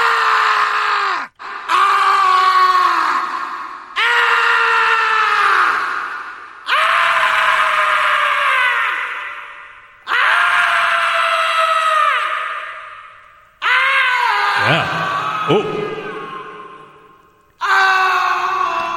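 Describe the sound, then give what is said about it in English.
Repeated long, loud vocal groans from a man, each lasting a couple of seconds with a falling pitch, drenched in an applied heavy reverb effect so they smear and echo into one another. Seven or so in a row, no words. “Hey, what would he sound like with reverb?”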